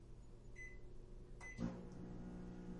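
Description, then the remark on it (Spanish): A microwave oven beeps twice with short, high tones, clicks, then starts up with a steady low mechanical hum that carries on evenly as it heats food. “Ahí ya está calentando la comida.”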